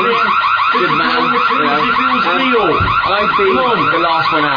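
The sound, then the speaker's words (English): A loud fire alarm sounding for a fire drill blares without pause, its shrill, warbling electronic tone repeating in fast cycles, with voices faintly speaking underneath. “Just a drill. Just a... Do not panic, okay?”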